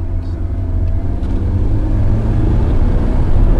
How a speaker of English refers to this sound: We walk back to the car and head toward San Leandro.